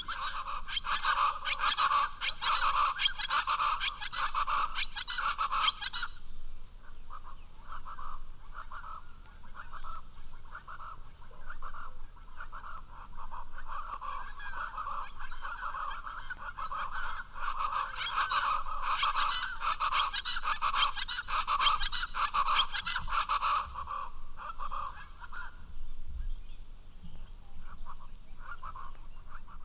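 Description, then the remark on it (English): Loud, raucous chachalacas, a Mexican game bird, calling back and forth in a rhythmic duet, harsh repeated cackles overlapping in bursts with a brief lull partway through, continuous. “Chachalaca is a Mexican game bird. It is found as far north as the lower Rio Grande Valley of Texas. They often call in duets.”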